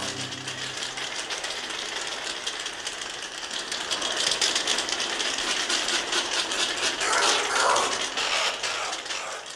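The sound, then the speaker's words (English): Oilbird echolocation clicks fill a cave in a rapid, dense, rattling stream, like a ratchet. The crackling stays steady throughout and grows slightly louder in the second half, with no voices. “Oil birds are night flying, fruit eating, cave dwelling birds who are echolocators.”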